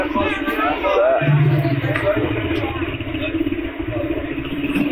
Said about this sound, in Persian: امان از این موتوری ها که همه جا هست.